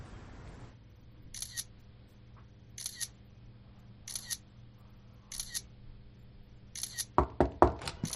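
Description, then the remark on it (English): Crisp camera shutter clicks fire at a steady pace during a photo shoot, roughly one every second and a half, then break into a quick flurry of several rapid shots at the end over a low background hum. “Go ahead and finish the photo shoot.”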